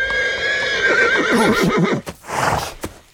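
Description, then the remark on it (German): A horse pulling a one-horse carriage, held at bay by a huge tiger, lets out a loud, high whinny that quavers and drops in pitch, followed by a few sharp knocks and scraping bursts of hooves and the carriage, with no voices. “Als er unten auf dem Pfad eintraf, sah er den riesigen Tiger, wie er einen Einspänner mit einem verängstigten Menschenpaar darauf in Schach hielt.”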